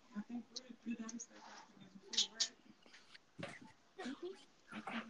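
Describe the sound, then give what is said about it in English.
A dog whimpers softly in short, high whines, mixed with breathy huffs and panting that come in uneven bursts over several seconds, fairly quiet throughout. “My dog okay. here wants to, I guess he wants to play some games.”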